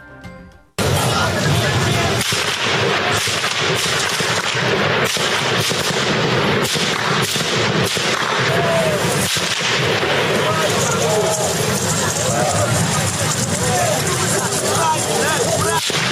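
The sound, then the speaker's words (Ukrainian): Repeated gunshots crack out at irregular intervals as security forces fire on Maidan protest activists on Instytutska Street on the morning of 20 February, through a dense, noisy crowd din, some sharp, others duller, with indistinct shouting and voices continuing throughout. “Активісти Майдану, які слідом за ними рушили по вулиці Інститутській, потрапили під прицільний обстріл.”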